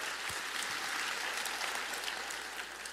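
An audience claps steadily in applause to the Lord, a dense wash of many hands with sustained applause at an even, moderate loudness throughout, with no one speaking over it.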